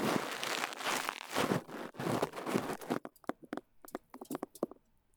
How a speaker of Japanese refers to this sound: ごめんね、ガサガサ言っちゃって。